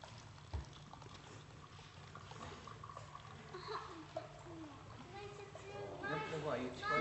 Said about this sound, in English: And there may be water everywhere. Let's see what happens. You hold it up a bit and then people can see the water pouring through.